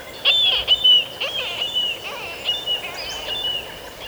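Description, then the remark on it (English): Calls of marbled murrelets, small seabirds related to puffins: a series of sharp, high, downward-sweeping cries repeating every half second or so over a thin sustained whistle, with no voices. “Most seabirds meet and breed in colonies, but marbled murrelets, little relatives of puffins, breed inland in old-growth forests.”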